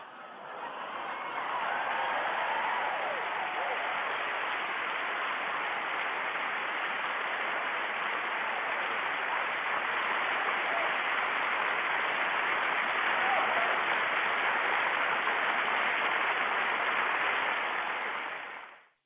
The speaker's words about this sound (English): and that is my piece. And thank you for all the claps.